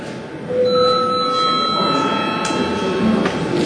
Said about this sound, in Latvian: Lūdzu zvanu, lūdzu deputātu reģistrācijas režīmu.